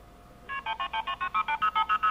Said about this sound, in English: Oh, those are illegal tones. Those are MF tones. No. Aren't they illegal? You don't hear them anymore. That was simply the pledge phone number. Oh, did you have the KP and the start tone as well?